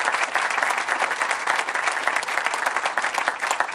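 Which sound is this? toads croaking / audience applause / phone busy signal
audience applause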